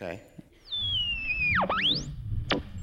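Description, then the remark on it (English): A radio dial being tuned: static hiss with a long, high whistling tone gliding slowly downward, then several quick swooping whistles sliding up and down, and a brief burst of another station. “Let's tune the dial.”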